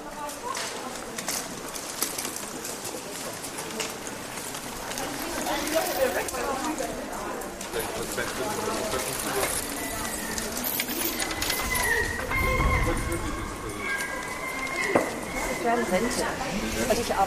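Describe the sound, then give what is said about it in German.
Busy pedestrian shopping street ambience in the Hückstraße, a shopping street in the old town of Lübeck, Germany: a steady murmur of many voices and footsteps, with occasional bird calls, gulls flying over and pigeon coos overhead, continuous and moderately loud throughout. “Und wir sind jetzt in einer der charmanten Einkaufsmeilen hier in Lübeck. Dazu gehört die Hückstraße und so hört sie sich an.”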